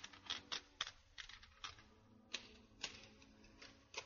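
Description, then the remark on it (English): Typewriter keys clack in an uneven run of sharp strikes, with a few louder thwacks and brief pauses, clear with no talking. “Well, they all laughed when he sat down at the typewriter.”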